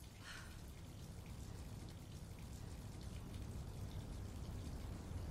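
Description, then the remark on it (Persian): Cold water runs steadily from a tap in a continuous, even hiss and splash, fairly soft, with no voices and no break in the flow. “Okay, just running on the cold water.”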